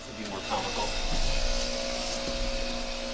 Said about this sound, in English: Can't hear you over the chainsaws. Hello? I don't know if you guys can hear this, but there are a bunch of chainsaws happening outside the window.